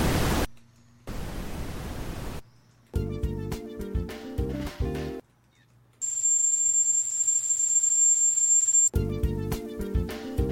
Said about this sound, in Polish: Albo biały szum.